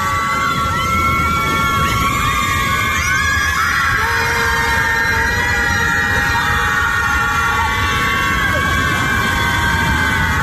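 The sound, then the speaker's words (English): A group of women screaming into Lake Michigan together in a loud, sustained chorus of overlapping high-pitched wails that rise and fall for the whole stretch, with no gaps or spoken words. “these are actual liberal white women screaming into the lake because President Trump won”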